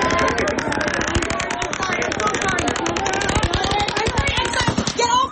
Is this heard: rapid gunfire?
yes